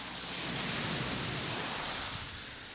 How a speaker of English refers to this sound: And you will have heard the splash from the spray of that car landing barely feet from where I am, the ripples still running across the top of the surface water.